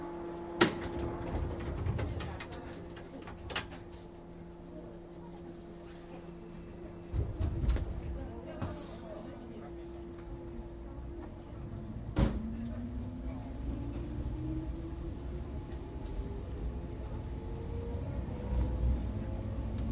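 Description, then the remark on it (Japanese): Inside a train bound for Hamamatsu, Japan, a few sharp door thuds ring out as the doors close over a steady electric hum; after a final clunk, a motor whine rises in pitch as the train begins pulling away. “浜松に関していたします。ドア閉まります。”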